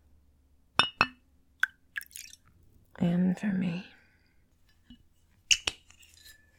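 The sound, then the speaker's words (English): Glassware clinks and taps in a few sharp, bright bursts as drinks are poured, with a short wet trickle. A voice speaks briefly midway, then more glass clinks follow. “I need a drink. Would you like one too?”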